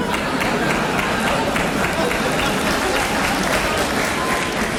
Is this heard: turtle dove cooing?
no